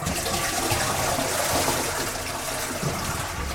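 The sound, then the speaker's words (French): A toilet is flushed as a test after its water supply tap has been shut off: a steady, loud rush of draining water lasting a few seconds, and no refill trickle follows. No talking. “On vérifie en tirant la chasse.”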